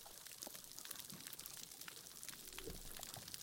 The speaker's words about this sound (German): Das ist aber leise jetzt. Können wir das noch ein bisschen lauter machen? Nee, das ist so leise. Das sind die Korallenriffe nach einer Bleiche, wenn die Korallen abgestorben sind und da deshalb auch nicht mehr so viele Fische schwimmen.